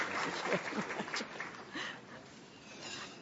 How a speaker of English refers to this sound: Let's give the DESA a round of applause for this dialogue.